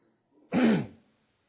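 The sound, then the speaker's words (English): A single rough, gravelly throat clearing lasting about half a second, with a brief rising-then-falling voiced rasp, heard on its own with no talking. “And I think this frog is slowly working its way up here.”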